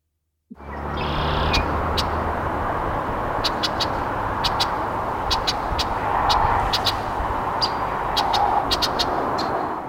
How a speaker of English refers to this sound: Okay, so let's start off by hearing Blackbird Redwing. Here we go.